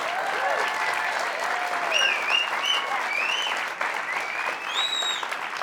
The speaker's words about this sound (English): That can be our whole show tonight. Just me tossing to the audience, clapping. It's been working so far.